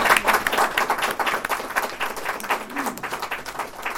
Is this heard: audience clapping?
yes